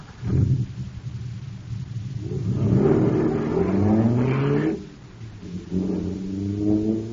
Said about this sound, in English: Wow, this jet car is supercharged now. Sure thing, there's super fuel in it.